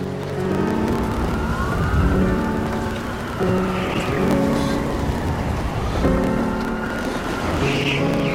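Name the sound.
approaching emergency vehicle sirens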